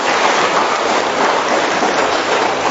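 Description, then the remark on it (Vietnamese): A big round of applause from a church audience at an afternoon Mass, greeting the new pastor, fills the whole stretch, a dense, steady crackle of many hands clapping at once with no breaks and no voices over it. “Xin chào tất cả anh chị em một tràng pháo tay thật lớn, thật nồng nhiệt với anh chị em.”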